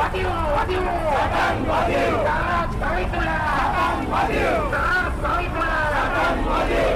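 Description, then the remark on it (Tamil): A large crowd at a trade union protest rally in Colombo, Sri Lanka, against the privatisation of state universities chants and shouts together, many overlapping voices rising and falling in rhythmic waves over a steady roar of background noise. “இலங்கையில் அரச பல்கலைக்கழகங்கள் தனியார் மயமாக்கப்படுவதற்கு எதிர்ப்பு தெரிவித்து ஆர்ப்பாட்டம் ஒன்று இலங்கையில் கொழும்பில் தொழிற்சங்கங்களால் நடத்தப்பட்டது.”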